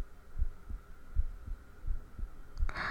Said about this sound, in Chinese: 什么叫现在听我的心跳比那时候声音要小了？什么意思啊？